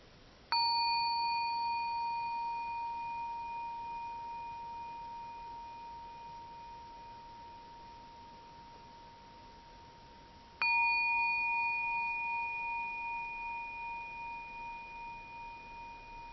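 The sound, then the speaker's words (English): A small timekeeper's bell is struck twice, about ten seconds apart, to signal the beginning of a meditation period, each clear metallic tone sustaining and slowly fading almost to inaudibility as it rings out, fairly loud, with no voices. “What happened in your mind with the first strike of the bell?”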